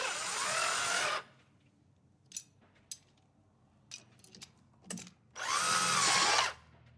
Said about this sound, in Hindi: अब वो घर के दरवाजे पर ड्रिल मशीन से लॉक में स्क्रू को कस रहा है।